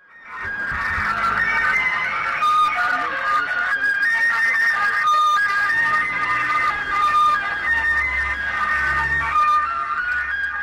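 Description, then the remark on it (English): A gas delivery truck in Jordan plays a tinny, looping electronic melody through a loudspeaker, with steady high-pitched notes over street noise and a low engine rumble toward the end. “But Für Elise is actually only one of two main tunes that the gas trucks play.”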